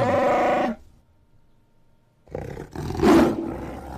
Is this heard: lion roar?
yes